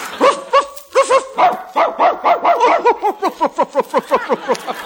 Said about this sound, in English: He just barked the funniest thing I've ever heard.